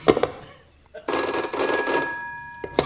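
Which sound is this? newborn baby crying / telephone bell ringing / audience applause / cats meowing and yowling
telephone bell ringing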